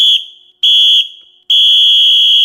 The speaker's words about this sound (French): Bon, je sonne le coup de sifflet final.